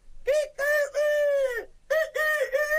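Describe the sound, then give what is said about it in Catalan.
A voice imitates a rooster crowing: loud and high-pitched, with two short bursts and a long drawn-out call, followed by a second crow cut off at the end. “Oi, oi, quan sentirien el teu cant, totes les gallines vindrien amb mi.”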